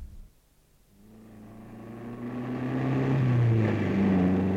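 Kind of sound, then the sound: vehicle, car engine running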